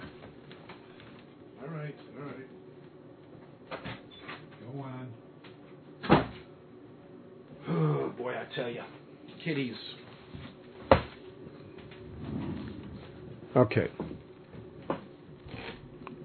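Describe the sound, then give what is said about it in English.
A door rattles and bumps as a female cat paws at it, wanting to get out, a few sharp knocks at irregular intervals, fairly loud, with a person talking in between. “hold on, the cat wants to get out, and she's messing with the door.”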